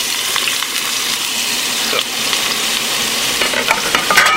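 Hot oil with a little salt sprinkled into it sizzles steadily in a frying pan, a dense crackling hiss that holds for several seconds, with sharper pops and spits toward the end and no talking.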